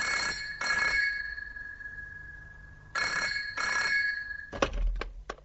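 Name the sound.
telephone ringing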